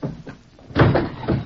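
A table is knocked over: a sudden heavy wooden crash followed by a couple of clattering bumps as it settles, with no voices.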